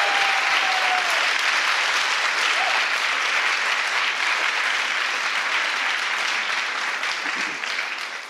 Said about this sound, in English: And huge shout-out and a round of applause, please, for all of the volunteers for their tireless work and effort.